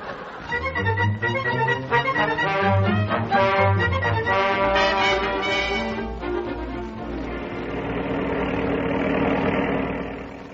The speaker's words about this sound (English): The car is going fine now.